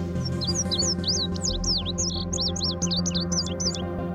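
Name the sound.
indigo bunting song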